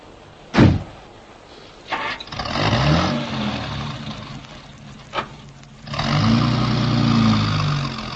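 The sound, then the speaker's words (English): A car engine turns over and runs with a low, steady rumble, then surges again after a brief lull. Sharp thumps like car doors punctuate it, and no one speaks. “Hop in, sir. What's up? Tell you in the car.”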